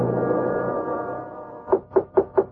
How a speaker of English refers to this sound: Who else would be knocking on your door at this hour?